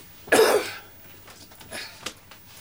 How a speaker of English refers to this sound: My little child's got a cough too, so her mother's put her in my bedroom so that